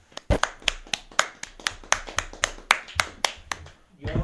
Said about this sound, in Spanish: y un aplauso para la radio.